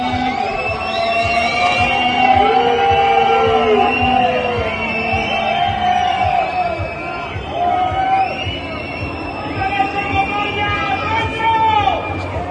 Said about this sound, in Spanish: Fíjate que la gente está enfadando mucho que cuando ven volver el coche de McLaren a boxes, abucheos a McLaren.